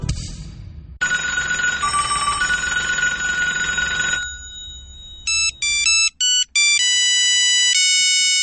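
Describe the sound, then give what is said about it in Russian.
A mobile phone ringtone plays loudly and alone in a radio advertisement for the MTS mobile network: a bright ringing tone for a few seconds, then a series of short melodic beeps forming a tune, continuing to the end. “Неважно, как звонит он.”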